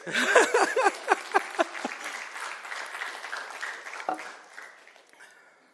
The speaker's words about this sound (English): You're allowed to clap. It's okay.